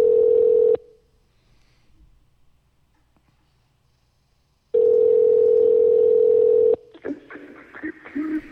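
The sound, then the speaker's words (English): A telephone ringback tone on a call being placed back: a steady electronic tone sounds in long bursts separated by a few seconds of quiet, then a Sprint TCS voicemail greeting begins speaking at the end. “I am calling back. It's ringing.”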